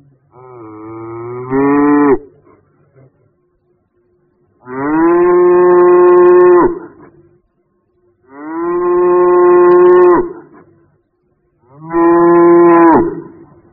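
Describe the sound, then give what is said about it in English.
A cow moos four times in a row, each call long and loud, with short pauses between them and no one talking. “I hear a cow.”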